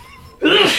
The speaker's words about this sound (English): Cut out my sneezing.